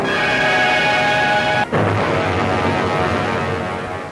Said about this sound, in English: A fierce explosion engulfs our view.